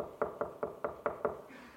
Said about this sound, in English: You ever had anybody knock on your door? Do you ever go to the door and there was nobody there anymore? Who knocked? What was that?